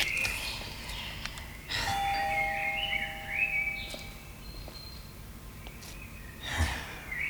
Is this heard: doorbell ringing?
yes